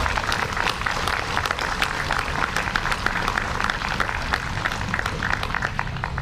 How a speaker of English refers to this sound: Let's give her one more round of applause.